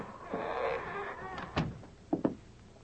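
A door handle rattles as a man tries the door of a dark, abandoned building with a wide veranda in a former boom town, and the door creaks open with a drawn-out squeal, followed by a couple of sharp knocks and thuds, heard without any talking.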